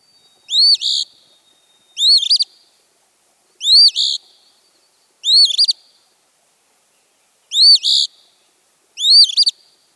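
A phoebe sings its raspy two-part call six times, clear and evenly spaced with short pauses between phrases, against a quiet background with no voices.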